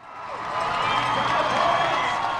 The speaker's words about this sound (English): As Meb Keflezighi came around the turn onto Boylston Street near the end of the marathon, the already cheering crowd made even more noise. And when he approached the finish line, the cheers became almost deafening.